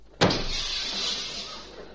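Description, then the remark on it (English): A cheap, half-glass car door slams shut with one sharp bang, followed by a long rattling, hissy clatter that slowly fades. No one speaks. “Get in the car and close the door.”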